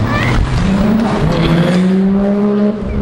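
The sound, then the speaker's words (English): A small car passes on a street, its engine loud and steady with a droning tone that climbs in pitch as it goes, cutting off near the end. “And that's just a small car.”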